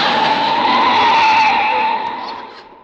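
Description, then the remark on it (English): A car races by with a loud, sustained tire screech over roaring engine noise, holding steady for a couple of seconds before fading off. No voices. “Please, sir, jam your foot down on the gas pedal.”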